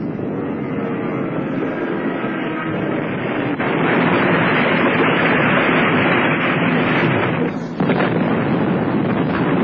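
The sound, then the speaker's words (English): A loud, continuous roar of a German plane coming down out of control after hitting a barrage balloon cable grows louder partway through, then a sharp explosive burst near the end as it crashes close by onto a fishing jetty, with the rumbling noise carrying on afterward. “It's going to crash close by.”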